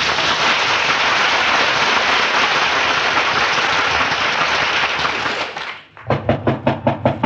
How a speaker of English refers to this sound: Ladies and gentlemen, fate is about to knock at the door at 79 Wistful Vista. And here in the living room at 79 Wistful Vista, where fate is about to knock at the door, we find Fibber McGee and Molly.